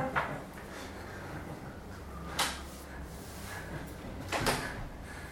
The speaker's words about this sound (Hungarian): Úgy látszik, kívülről működik ez az ajtó, belülről, nem?